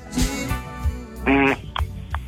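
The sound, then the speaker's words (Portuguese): A loud, buzzy fart sound lasting about a quarter second, preceded and followed by a few shorter, softer low sputters and thumps. “Ô, velho, falta de educação peidar.”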